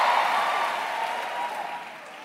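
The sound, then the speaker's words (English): A crowd applauds and cheers in a steady, dense wash of clapping and voices that slowly fades over about two seconds. “Can I hear a shout in the house?”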